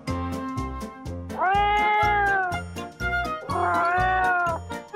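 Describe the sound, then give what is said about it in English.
A kitten meows twice, each cry drawn out and rising then falling, with a short pause between, over a steady rhythmic beat of background music. “How about a kitten? Asked Dad.”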